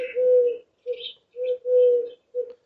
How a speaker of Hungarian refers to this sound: Felismerik? Ez a balkáni gerlének a hangja, ez a karcsú, szürke galambfajta. Amikor olyan kicsi gyerek voltam, még összekevertem a hangját a baglyokéval is, mert ugye a versikében úgy mondjuk az huhút mond, csak hát ez pedig huhúhút.